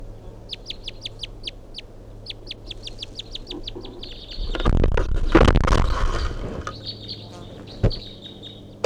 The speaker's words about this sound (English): 8:11, that bird's still perched up in the pine tree here, giving these weird calls or whatever.